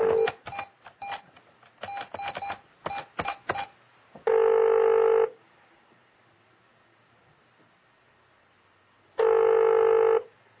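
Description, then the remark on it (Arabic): A quick run of electronic dialing beeps, then a phone line ringing as a call is placed to a guest during a live broadcast: two steady one-second ring tones separated by a long silent pause, clear, with no one talking. “لا نحن نتصل بك الآن ومعنا معنا الجرس.”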